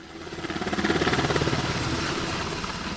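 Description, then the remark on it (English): A Coast Guard MH-60 helicopter returning from a training flight in Kotzebue: its rotor thumps in a steady rapid pulse over a loud engine whine, growing louder in the first second and then holding strong without any voices. “It was business as usual as the second MH-60 helicopter returned from a training flight.”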